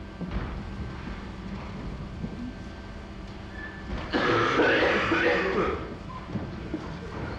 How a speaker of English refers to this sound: lot of coughing, other people coughing in response, coughing is contagious, more coughing, people looking in the direction of the coughing and looking at each other.